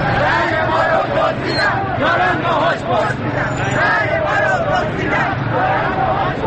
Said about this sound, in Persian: خیابان زیر پای معترضان است. امروز شنبه 30 خرداد است و صدای فریادهای معترضان بار دیگر در خیابان‌های ایران پیچیده است.